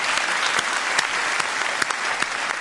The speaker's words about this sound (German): Ja, das wollen wir mit einem kleinen Applaus würdigen. Freunde, der Applaus ist für Jesus. Ja.